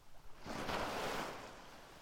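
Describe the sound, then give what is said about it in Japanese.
A soft wash of sea waves swells up and slowly recedes, a broad hissing roar with no voices, gentle and steady rather than crashing. “海の音、静かでゆったり。”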